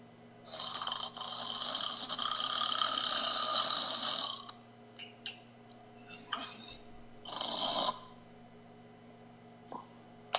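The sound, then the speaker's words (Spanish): A long, loud hissing shush lasting several seconds, made by Cornelia and Antonia to stop Caesar Augustus snoring, then a few soft rustles and a second shorter shush, over a low, steady rumble of Augustus snoring. “Al oír los ronquidos del César, emiten el clásico ruidito que se les hace normalmente a los que roncan para que dejen de roncar.”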